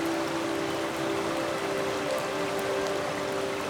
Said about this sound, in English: We've landed on a little grassy area just near the waterfall. Just look at it. So beautiful and powerful. And now, let's listen. So relaxing. How does the waterfall sound make you feel?